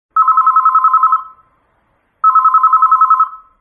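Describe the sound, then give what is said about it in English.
A telephone bell rings twice, each loud, rapidly trilling burst lasting about a second, separated by a short pause, with no voices around it. “He used the telephone at home and in the office to call people.”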